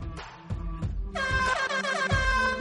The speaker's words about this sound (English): We need a new air horn